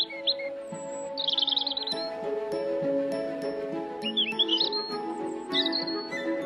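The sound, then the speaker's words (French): A European robin sings short, high, trilling phrases in bursts separated by brief pauses, clear, over a soft, steady musical drone. “Par exemple, on voyait arriver le rouge-gorge, c'était un signe.”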